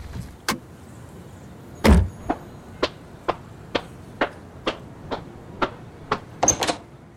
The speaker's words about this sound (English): External police station, morning. Huskins drives up and parks. She gets out of her car and enters the building.